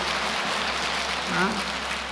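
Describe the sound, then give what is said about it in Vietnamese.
A sustained burst of audience applause, a dense, steady crackle of many hands clapping at once that fills the whole clip, with a faint voice briefly rising above it near the end. “Tốt thì đương nhiên phải một tràng pháo tay thật to chứ.”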